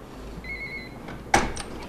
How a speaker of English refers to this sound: I'm in a drab cement building in a freezing stairwell, and I'm looking for a computer scientist who escaped North Korea. His office isn't well marked, because he likes his privacy. But I finally find it and ring the doorbell.